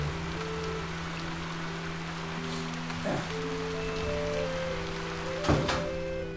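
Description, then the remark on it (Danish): Steady rain hisses outdoors by a two-storey red brick building on Mors by the Limfjord, under a grey rain cloud, with faint sustained organ music drifting from a distance from inside the building as someone practises. Two soft thumps about halfway through and near the end. No one speaks. “Men lige nu kan jeg ikke se andet end et toetages rødt teglstensbyggeri midt i en grå regnsky.”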